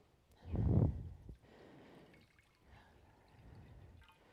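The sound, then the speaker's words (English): Water is poured, starting with a heavier gush for about a second and then settling into a steady, softer stream of splashing liquid with no voices. “So I'm going to take some water here, okay?”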